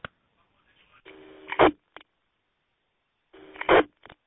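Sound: phone call ringing tone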